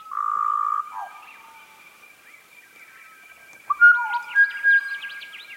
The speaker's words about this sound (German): Der Butcherbird, zu Deutsch Würgekrähe oder auch Flötenvogel genannt, in einer Aufnahme der Musikwissenschaftlerin Hollis Taylor aus Sydney.